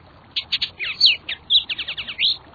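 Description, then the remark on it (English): A Bullock's Oriole sings a lively phrase of clear whistles, slurred notes and quick chattering chirps, fairly loud, with no voices and only faint background hiss. “Some songbirds, such as the brilliantly colored Bullock's Oriole, stop to nest along the Cache-la-Poudre River as it flows through Fort Collins, Colorado.”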